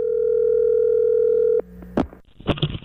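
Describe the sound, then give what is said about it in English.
A steady, humming telephone dial tone as a call is placed to golfer Tiger Woods holds for about a second and a half, then cuts off into clicks and a buzzy burst of ringing at the end. “So we've got a number for Tiger, and let's give him a buzz.”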